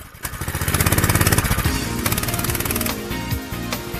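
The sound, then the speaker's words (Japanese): The small, high-revving engine of a small racing car runs with a rapid, rattling pulse, loud and steady, its pitch rising and dipping as the throttle changes. “エンジンがある。嘘みてえ。俺、車乗ってる。”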